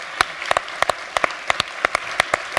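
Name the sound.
audience clapping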